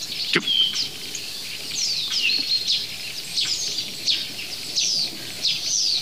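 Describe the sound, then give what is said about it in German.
A busy mix of bird calls from a starling imitating sparrows and various water birds: repeated high, thin chirps and short descending whistles, sparrow-like, with occasional sharper calls, over a steady faint background hiss of the starling's typical static crackling. No talking. “eine wilde Mischung aus Sperlingen, diversen Rufen von Wasservögeln, Handyklingeln, würde ich fast sagen, arttypisches statisches Knistern”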